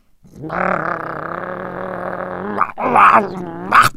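A stray dog growls in a long, steady rumbling snarl for about two seconds, then lets out two sharper, harsher snarls in quick succession.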